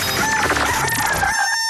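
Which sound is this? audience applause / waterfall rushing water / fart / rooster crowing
rooster crowing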